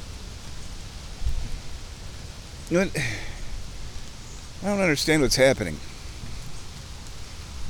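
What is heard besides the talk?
rain falling outside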